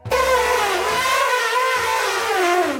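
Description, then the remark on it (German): A loud, sustained elephant trumpet, about three seconds long: a harsh, brassy blare whose pitch wavers up and down before fading out. No one speaks over it. “Die Tiere, um die es heute geht, die klängen etwa so.”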